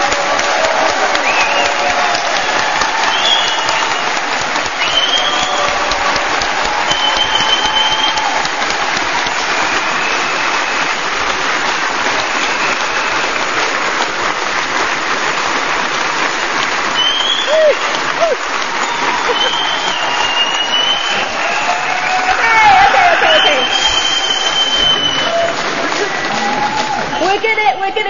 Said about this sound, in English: Those pilgrims, so you can do some more cheering and clapping.